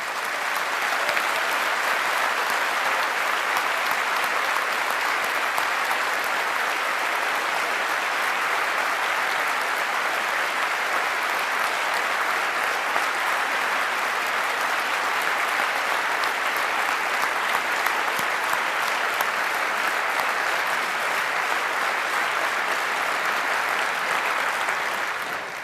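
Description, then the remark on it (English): A large audience at a talk claps steadily for about twenty-five seconds in a big round of applause for the project's helpers, a dense, even wash of applause holding at a constant loudness before easing slightly at the very end. “So give all of them a big round of applause, please, for making this possible.”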